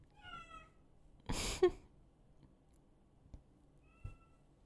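Cats in heat caterwauling outside: a wavering, drawn-out meow, then a sudden loud, harsh squall, and a faint short cry near the end, with quiet stretches between and no talking.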